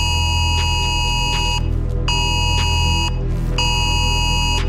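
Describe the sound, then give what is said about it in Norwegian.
A mobile phone emergency alert tone, sounded in a nationwide test of the emergency alert system at 12 o'clock, blares in three loud, harsh buzzing bursts separated by short pauses, with a steady low hum running underneath throughout. “For klokka 12 I dag vil mobiltelefoner over hele landet vibrere og spille av et høyt lydsignal.”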